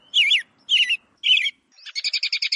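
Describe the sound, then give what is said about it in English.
An American robin sings three clear, warbling phrases separated by short pauses, then finishes with a quick run of about seven rapid chirps, all fairly loud with no other sounds. “It's a robin. That's a robin. Definitely a robin.”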